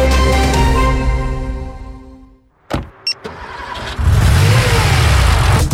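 A car engine hums, then after a couple of sharp clicks it roars to life, revving loudly and steadily with no voices present.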